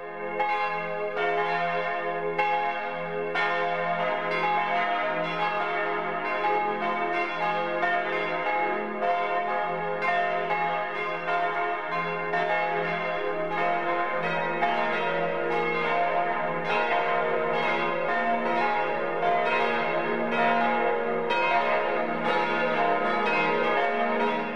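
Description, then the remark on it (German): Several church bells of the Church of St. Anthony and the Friedenskirche in Bad Wiessee, Upper Bavaria, on the western shore of the Tegernsee, ring the 12 o'clock midday chime together in a steady, overlapping peal, loud and sustained with rich lingering overtones, and no voices. “Michael Mannhardt hat die Kirche zum heiligen Antonius und die Friedenskirche besucht und die Glocken aufgenommen.”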